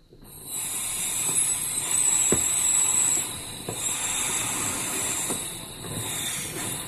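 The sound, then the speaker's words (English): A 'Widowmaker' dab of concentrate, 10 dabs in one, vaporizes on a red-hot nail with a steady, bright sizzling hiss lasting several seconds, broken by a few faint crackling pops. “Now he's consuming the dabs.”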